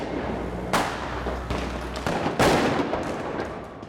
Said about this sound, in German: So klingt hierzulande Silvester.